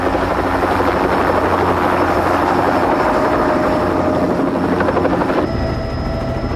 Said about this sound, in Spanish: Vincent y Michael sobrevuelan una ciudad en helicóptero.